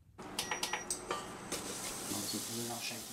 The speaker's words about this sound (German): Er wirft Senfsamen ins heiße Öl und gibt frischen Knoblauch und Ingwer mit in die Pfanne.